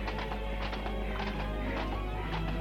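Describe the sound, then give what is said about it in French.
The hooves of a rented horse clip-clop at an unhurried walking pace in the Bois de Boulogne, a steady run of sharp knocks over a constant low hum, fairly loud. “Charles-André a loué un cheval. Ils vont au bois de Boulogne, au pas”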